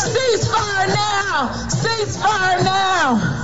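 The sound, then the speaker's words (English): A large crowd at a 2023 protest chants the slogan "Ceasefire now" in unison, the shouted phrase repeating in a steady rhythm, loud, with a dense murmur of voices underneath. “Well, the crowd quickly caught the chant.”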